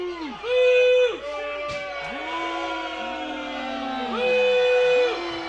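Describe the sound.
A crowd boos the announcer during a match in long, drawn-out vocal tones that rise and fall in pitch. The booing swells loudly at the start and again near the end, with several voices overlapping throughout.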